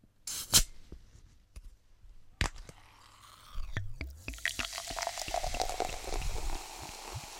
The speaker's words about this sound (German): Jemand hat Wasser aufgefüllt. Mhm, wo rein? Ein Glas oder eine Flasche.